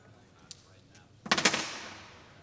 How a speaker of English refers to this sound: And now I'll throw the dice.